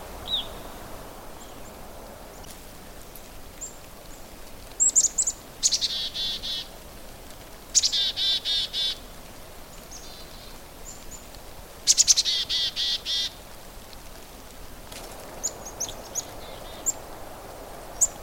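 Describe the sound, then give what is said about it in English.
A small flock of chickadees gives repeated high, thin calls in short bursts, several notes each, coming in clusters against a quiet outdoor background with faint ambient hiss and no talking. “What's coming through right now is a little flock of chickadees.”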